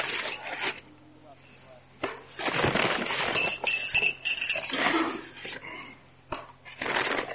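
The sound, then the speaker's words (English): Glasses are lifted out of a bag: bursts of crinkly rustling with a few light clinks, one long stretch of handling followed by a shorter burst near the end. “So I want to reach into my bag here. Pull out some glasses.”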